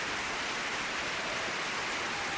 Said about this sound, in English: Give him a little applause. There you go.